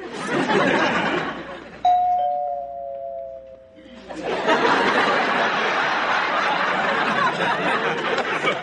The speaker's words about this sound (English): See, that doorbell was one of your jobs.